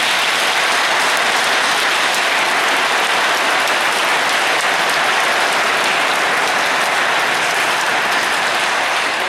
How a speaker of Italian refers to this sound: Bel applauso di oggi.